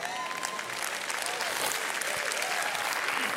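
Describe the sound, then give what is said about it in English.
A crowd applauds steadily, dense clapping filling the whole stretch at an even, fairly loud level, with faint murmuring voices mixed underneath. “Some people are clapping, others are trying to figure this out.”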